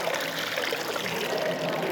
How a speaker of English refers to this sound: Big Brother's going to pour the water. There we go.